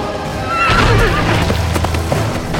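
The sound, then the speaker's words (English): A horse, the great stallion Twilight Dancer, lets out a loud, shrill whinny that rises and wavers as it stops attacking a demon and gallops off, set against a dense, rumbling backdrop of hoofbeats and crashing noise. “The great horse ceased its attack on the prone demon and galloped after them, leaping into the ring.”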